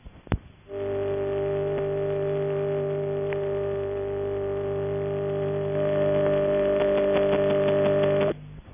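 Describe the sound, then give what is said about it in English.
A faint transistorized telephone number unobtainable tone (NUT): a steady, buzzy electronic drone lasting about seven and a half seconds, growing slightly harsher and louder toward the end before cutting off abruptly. “And following that, the sound of a transistorized NUT, rather faint, I'm afraid.”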